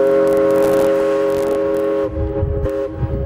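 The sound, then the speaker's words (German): A historic paddle steamer's horn sounds one long, loud, chord-like toot that holds steady for about two seconds, then cuts off, leaving a low, uneven rumble. It is at the traditional steamer parade in Dresden, with nine historic ships 82 to 132 years old, in bright sunshine before thousands of spectators. “Ein altvertrautes Tuten, historische Raddampfer und strahlender Sonnenschein.”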